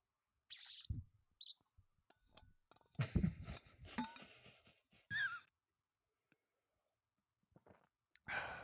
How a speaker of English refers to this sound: I'm drinking a flavor-infused gin with tonic water and ice. Lovely. For all the ASMR fans out here, here's me opening a bottle and taking a sip.